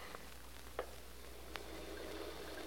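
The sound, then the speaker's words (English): A shower is turned on and runs steadily, its soft, even hiss of spraying water filling the background, with a couple of faint clicks and no voices. “I want to turn on that shower.”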